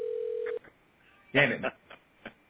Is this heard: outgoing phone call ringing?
yes